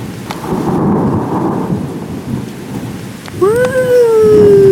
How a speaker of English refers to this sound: It may have been the thunder. I felt it. It woke me up, shook